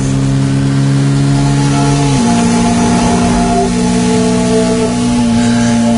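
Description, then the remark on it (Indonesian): A motorcycle engine hums steadily, its pitch stepping up partway through as it revs, then holding a constant drone until the end, with no voices. “Temanku menawarkan untuk gantian menyetir, namun aku menolaknya karena masih ingin menyetir motor.”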